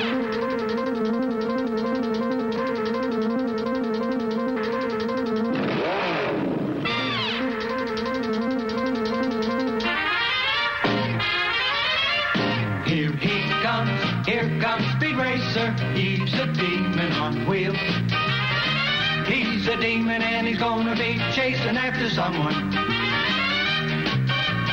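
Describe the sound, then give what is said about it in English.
The theme song of the cartoon show Speed Racer, once aired on Channel 52, plays loud and steady, a bright, busy instrumental intro with a sweeping glide early on before the full band drives ahead, no voices yet. “All right, let's play his theme.”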